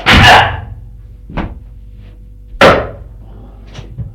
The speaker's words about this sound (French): Et d'un geste brusque, elle fait tomber à terre Sylvie.